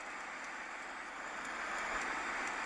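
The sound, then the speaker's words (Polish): A steady, even rush of road and engine noise from inside a car driving up a mountain road on the Tibetan Plateau at about 4,000 metres above sea level, holding at a constant level throughout with no speech. “A tutaj, gdzie jedziemy teraz autem, no to jakaś wysokość około 4000 metrów nad poziom morza.”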